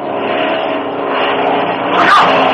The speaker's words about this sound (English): Can you hear what this plane does?